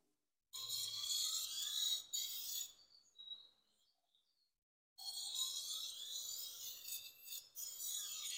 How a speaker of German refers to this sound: Den kann man hier einstellen. Und zwar zwischen 8 und 22 Grad. Und dann muss man hinterher an der Abziehscheibe den Grad, der beim Schleifen entsteht, wieder abmachen. Das schauen wir uns jetzt gleich nochmal in Funktion an.